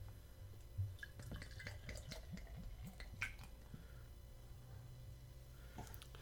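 Beer is poured from a full twist-off growler into a glass, with soft, irregular gurgles and splashes for a few seconds before trailing off. The pour is quiet, over a low steady hum.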